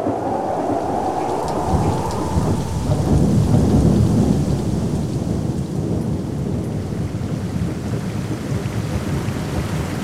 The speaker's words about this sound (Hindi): चित्र नम्बर 7, ई चित्रमे अपनाके देखै छियै कि परमेश्वर 40 दिन तक लगातार आकाश से पानि बरसेलके।